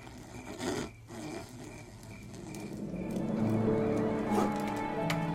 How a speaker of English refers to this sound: All throughout the night, Gelato poured his love into this new and very special wood carving.